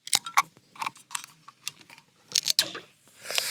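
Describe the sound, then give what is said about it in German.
A beer bottle is tapped on top several times with sharp, irregular clinks and clicks, followed by a louder burst as it is opened and a rising fizzy hiss at the end. No voices. “Erstmal Bier auf, Moment. Das ist wichtig, mit dem Draufklopfen habe ich gehört.”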